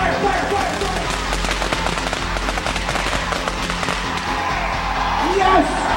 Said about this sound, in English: We're gonna take 100 firecrackers to the Navy Sin and light him on fire!